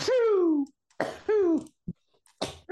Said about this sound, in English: And then, excuse me, hang on, I'm going to sneeze.